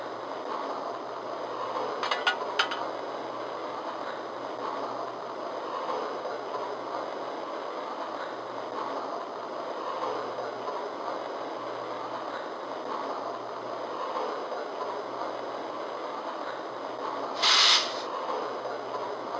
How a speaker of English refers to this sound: Departing on track 3 for Chicago, train number 17, the Wolverine. Watch your step. Step right this way.